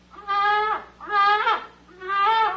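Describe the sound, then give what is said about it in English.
A human voice imitates a baying hound, presented as the long-eared dog called the Bugle. It gives three long, drawn-out, wavering bays, each rising and then sagging in pitch, loud and evenly spaced with short pauses between them and no talking. “That was the well-known long-eared dog, the Bugle.”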